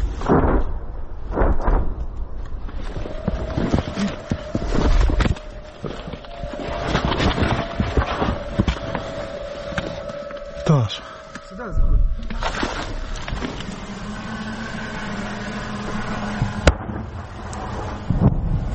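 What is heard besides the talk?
distant artillery shell explosions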